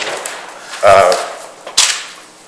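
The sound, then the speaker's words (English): A gavel slams down twice at a public board meeting, two sharp, loud wooden bangs about a second apart, the first heavier and ringing briefly, over a faint background hum. “And when I slam the gavel down, the people that are still upright in their chairs are going to be the stuckies.”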